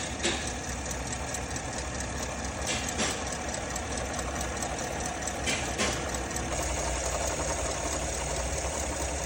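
A car engine idles with a steady, even rumble and a faint mechanical ticking, holding a smooth, unbroken rhythm with no misfires and no excessive crankshaft play throughout.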